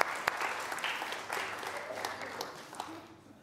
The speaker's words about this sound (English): And sit down. Round of applause.